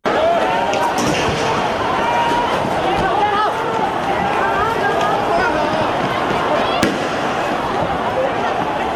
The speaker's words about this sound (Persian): شلیک گاز اشکاور در جریان اعتراض‌های بدون مجوز رسمی در شهر هنگ کنگ، چیزی که زمینه رویارویی دموکراسی طلبان و پلیس را فراهم کرده.